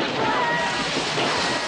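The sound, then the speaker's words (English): Loud splashing as several men leap into a swimming pool, the churning water blending into a steady rushing wash with a faint murmur of voices beneath. “Callahan swims away as men leap into the pool.”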